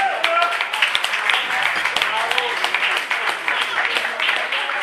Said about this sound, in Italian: datemi una mano con un bel applauso, vorrei invitare sul palco con noi